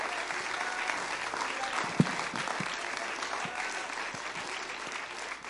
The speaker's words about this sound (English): Why don't you stand right now, giving honor to God, clap your hands unto Jesus